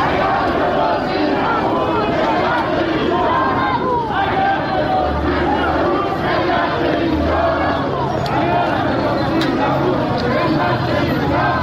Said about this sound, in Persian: بورس تهران روز یکشنبه شاهد افتی 9775 واحدی بود و به 1,200,000 واحد رسید و همین سبب شد تا گروهی از سهامداران حقیقی در اعتراض به ریزش مداوم بورس و برباد رفتن سرمایه هایشان در مقابل ساختمان شرکت بورس و اوراق بهادار تجمع کرده و اعتراضشان را فریاد زنند.